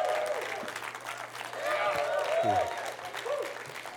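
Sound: church audience applauding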